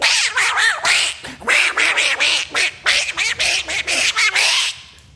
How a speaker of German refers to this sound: Und schnatter, schnatter um mich her und Enten unten.